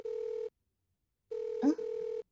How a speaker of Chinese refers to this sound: 说着就来了，宝贝的电话。